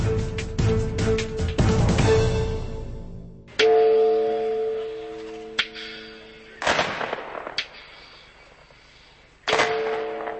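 Church bells ring with sustained, harmonic tones while sharp gunfire cracks of a gun salute burst out, first in a dense cluster, then as several single loud shots with the bells resonating between them, at a ceremony in the town of Chernobyl marking the 20th anniversary of the Chernobyl nuclear plant disaster.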